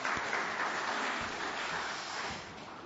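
An audience claps steadily in a dense, sustained wash of applause for people standing up, holding at an even level, then easing slightly toward the end. No one speaks over it.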